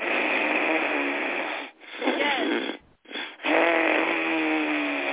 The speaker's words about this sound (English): No, Ujjayi breath is the one where you can hear it. You're breathing through your nose, and I'm going to be as loud as I possibly can.